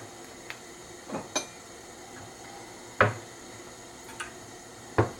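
A gas stove igniter clicks several times at uneven intervals as a burner is lit to prepare for deep-frying, sharp, with a few fainter ticks between the louder snaps over a quiet background and no talking; the range hood is off.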